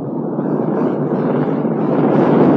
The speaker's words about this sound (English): Here we go. Liftoff. We have a liftoff.